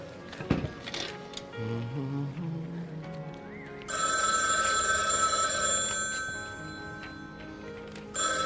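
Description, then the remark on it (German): An old-fashioned telephone bell rings loudly and steadily for a few seconds, its bright metallic trill cutting in after a short stretch of low musical tones and soft background sounds. “Chef, der Telefon bitte.”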